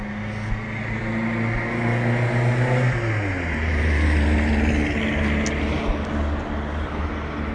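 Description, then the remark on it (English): A loud, raspy car engine roars, as if running without a muffler; its droning pitch holds steady, then drops sharply partway through before rumbling on. No one speaks. “Much quieter in terms of quantity of traffic, but those people who are driving about seem to have lost their mufflers.”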